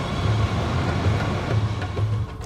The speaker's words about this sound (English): Wait, was that a train? Where are you? Yeah, that's from Santa Pancras, but I'm actually in Camley Street Natural Park.